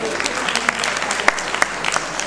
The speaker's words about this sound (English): Yeah, give yourselves a clap.